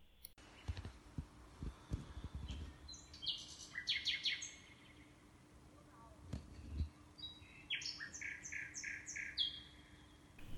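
A common nightingale, a small bird about 16 cm long that winters in Africa and returned a few days ago in spring, sings in the Gotcha wilderness: two loud, rich phrases built from rapid repeated notes and stepped whistles, separated by a pause, over a low background rumble with occasional soft thumps.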